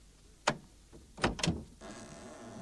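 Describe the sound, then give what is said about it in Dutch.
A sharp click near the start, then a heavier clunk and rattle as a front door is unlatched and swung open in the evening, followed by a low hollow room tone. Fairly quiet, no voices. “Doe de deur open.”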